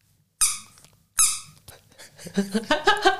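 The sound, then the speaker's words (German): A yellow rubber duck bicycle squeaker with a propeller on its head, made to fit on the handlebar as a bell substitute, gets squeezed twice, each sharp squeak followed by a wheezy release, then a quicker burst of several uneven squeaks. “Es ist eine Quietscheente fürs Fahrrad.”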